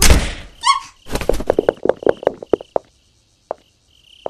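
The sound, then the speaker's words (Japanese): The door of a mansion in a forest is opened: a scrape and a brief high creak, then a run of rattling clicks and knocks from the latch and hinges, trailing off into a few isolated taps. “お待ちになって、今扉を開けるから。”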